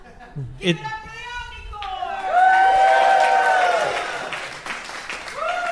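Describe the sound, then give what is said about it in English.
A burst of applause sound effect for a Suzuki Omnicord swells into loud cheering with rising and falling whoops, peaks for a couple of seconds, then fades slightly while clapping continues. “Applause for the Suzuki Omnicord.”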